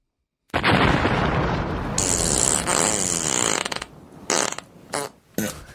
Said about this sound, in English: No, it was actual air exiting her body as she died, which happens.